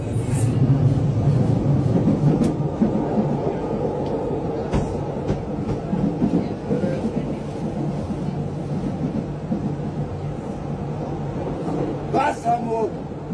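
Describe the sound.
Steady low rumble of a moving public transport train heard from inside a carriage, where someone is smearing paint on the floor, with rattles and clicks from the rails, muffled voices in the background and a brief high squeal near the end.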